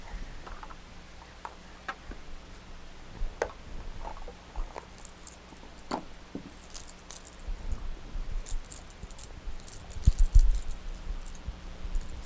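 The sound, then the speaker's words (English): Keys jangle and clink in scattered bursts, light metallic ticks at first, then growing busier and louder near the end, with no one talking. “Hear those keys? They make a big noise, huh?”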